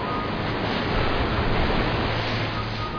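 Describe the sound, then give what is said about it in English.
Rough, stormy sea water surges in a continuous, steady roar, fairly loud, with no voices over it. “So they picked up Jonah and threw him into the sea. And the sea ceased from its raging.”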